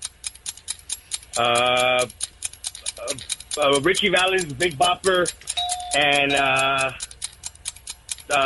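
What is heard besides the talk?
ticking countdown clock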